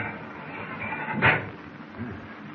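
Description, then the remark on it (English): A heavy steel door in a control compartment opens with one solid metallic clunk midway through, fairly loud, set against a steady low background rumble. Nobody speaks. “I'll try this steel door, see what it needs.”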